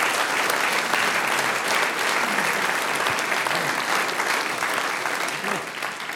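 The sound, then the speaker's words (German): Sustained audience applause for an event organizer, a dense, steady wash of many hands clapping at constant loudness for several seconds, with faint murmuring voices underneath and a slight fade at the end. “Du kriegst einen Applaus.”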